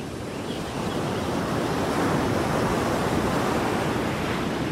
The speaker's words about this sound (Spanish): Y esas olas que no se cansan y siempre están en movimiento.